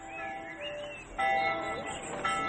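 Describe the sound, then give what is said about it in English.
Village church bells ring in overlapping, sustained metallic tones, with fresh strikes swelling in partway through and again near the end, the chime lingering steadily between them. “Listen to the bells. It's like a great festival.”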